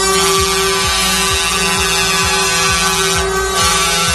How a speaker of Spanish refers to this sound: En Extremadura, centenares de camiones se movilizan en la A5. Así suena la caravana a su paso en estos momentos por Plasencia.